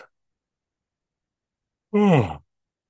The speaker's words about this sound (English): By the way, when I yawn, it's not because I'm tired. Yawning is one way that I move energy when I'm facilitating. So it's just one of those things I do.